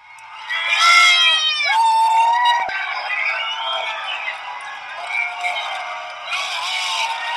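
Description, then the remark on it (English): A large outdoor crowd of protesters, many heavily armed, gathered in support of Cliven Bundy, yells and cheers continuously as a federal agent lets the Bundys have their cattle. Overlapping shouts and whoops rise and fall, fairly loud throughout. “Well, shortly after, the federal agent let the Bundys have their cattle, and you can hear the crowd's response.”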